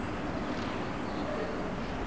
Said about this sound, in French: des camions et des voitures,